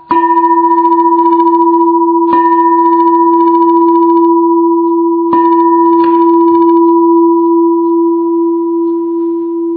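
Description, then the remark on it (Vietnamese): A Buddhist temple bell from Huế, Vietnam, struck about four times at uneven intervals, rings loud, its deep steady hum sustaining unbroken between strikes with no voices. “Chuông này ngon à, chuông Huế à.”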